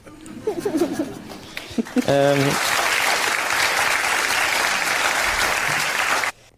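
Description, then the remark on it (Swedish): A brief stretch of talking gives way to a burst of audience applause related to Ebba Witt-Brattström, a dense, steady wash of clapping that holds for about four seconds before cutting off abruptly. “Men det här kan jag förstå applåden på ett annat sätt.”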